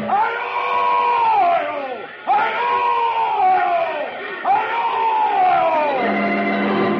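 Boltar's roaring battle cry during a battle against the Danes: three long, loud bellowing shouts, each starting high and sliding down in pitch, over a dense clamour like a crowd in battle.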